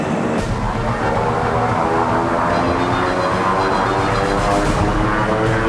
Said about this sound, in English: The twin-propelled plane accelerates down the runway.